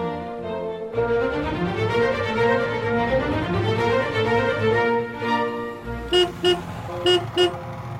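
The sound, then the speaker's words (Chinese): A motorcycle horn sounds, first as a long, wavering, sustained blare, then as four quick, sharp toots near the end, as motorcycles arrive to pick people up. No one speaks. “哇，机车的喇叭声又不一样了耶！”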